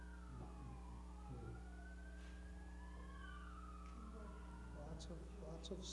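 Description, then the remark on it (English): Several emergency sirens wail at once, their rising and falling tones crossing over each other against a steady low rumble, with muffled voices faintly underneath. “Lots of sirens.”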